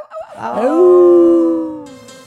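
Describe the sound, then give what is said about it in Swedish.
Several human voices howl together, imitating a wolf, letting out a rising howl that settles into a long, steady note lasting about two seconds, loud. “Och på det ylar vi alla ihop.”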